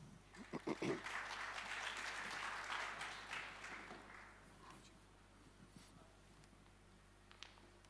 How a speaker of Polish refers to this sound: Proszę o brawa.